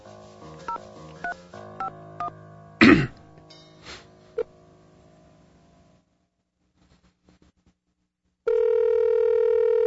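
A quick run of telephone dialing tones beeps out for a sample phone call, broken by a couple of sharp coughs, then a short lull before a steady, loud ringing tone begins on the line.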